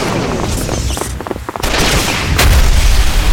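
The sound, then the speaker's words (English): Pneumatically pumped laser cannons fire streams of lasbolts during a storm, rapid, repeating bursts of sharp, barking squeals over a dense roaring rumble, dipping briefly midway before surging back even louder. “The weapons made sharp, barking squeals as they discharged, a repeating note louder than the storm.”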